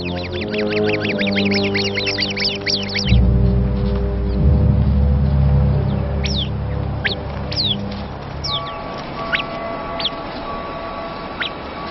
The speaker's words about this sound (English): A viper. The sentry bird immediately sounds the alarm. The flock comes together for protection.